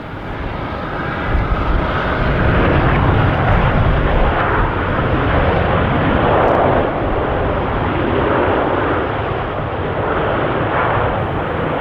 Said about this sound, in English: Have you ever been on a plane before? You must be familiar with that sound.